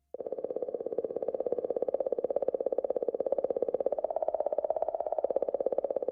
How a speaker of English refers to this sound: You're listening to the sound that a comet makes. That mysterious clicking comes from Comet 67P out there in the middle of the solar system with the Philae probe riding right on top.